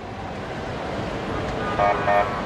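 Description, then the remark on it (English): Backed-up traffic on the Al-Manara main square in Ramallah, West Bank, fills the scene with a steady, dense rumble of idling engines, and two short car-horn honks sound close together near the end. “In Ramallah, in the West Bank, traffic is backed up again on the main square of Al-Manara.”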